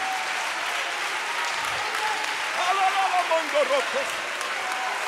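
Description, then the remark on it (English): A standing audience claps steadily to magnify the name of the Lord Jesus, a dense wash of hand claps filling the room, with voices calling out faintly beneath the applause. “Can you put your hands together and can somebody clap and magnify the wonderful name of the Lord Jesus?”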